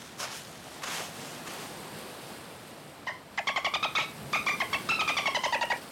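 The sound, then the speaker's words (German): A seagull calls in three quick bursts of rapid, repeated squawks, fairly loud, after a few soft rushing noises at the start. “Das war eine Möwe.”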